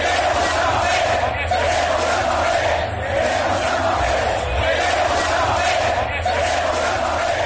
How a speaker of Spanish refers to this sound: Eso es lo que se gritaba esta tarde en el Estadio Santiago Bernabéu.